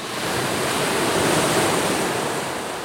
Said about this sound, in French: La mer rugissait au pied de la falaise.